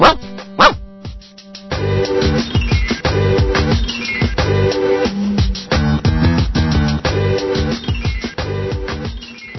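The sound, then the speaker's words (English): A pet dog barks in loud, rapid bursts, the barks coming in a steady repeated rhythm with no pauses and no one speaking. “My dog.”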